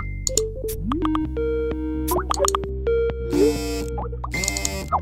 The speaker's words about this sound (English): It's a constant thrum of notifications, tweets, and messages.